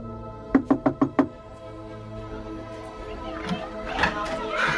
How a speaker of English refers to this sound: knocks on an apartment door.